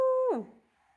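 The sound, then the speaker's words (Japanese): A young child's voice gives a short imitation of a wolf howl, a sustained steady tone that slides downward and fades, fairly loud, lasting under half a second. “オオカミさんは？ワオー。”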